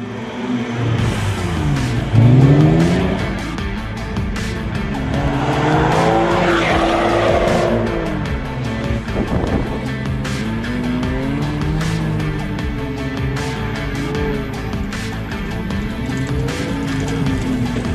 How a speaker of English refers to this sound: But this is a car that goes on water, and there's been some before, but this baby goes as fast as a jet boat. It's crazy. Watch this.